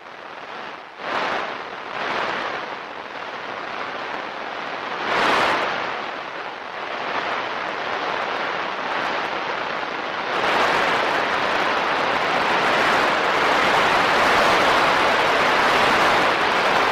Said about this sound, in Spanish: ¿Y sabéis cómo se escucha una tormenta solar? Pues se escucha así. Así suena una tormenta solar más débil que la que hemos sufrido estos días.